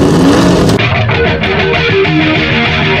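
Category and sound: vehicle, race car engines roaring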